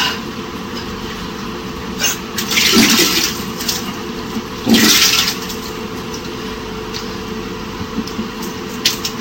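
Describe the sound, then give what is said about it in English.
A woman flushes a toilet after vomiting: two loud bursts of rushing water a couple of seconds apart, over a steady low background hum, with no one talking. “And then she flushes the toilet.”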